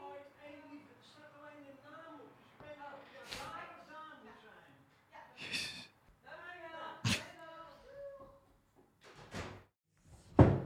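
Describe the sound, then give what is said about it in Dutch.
A doorbell, rung by the postman, rings, then the front door is opened with a series of sharp clunks and thuds, the loudest one near the end, while a voice talks over most of it. “Godsamme, dan gaat weer de bel.”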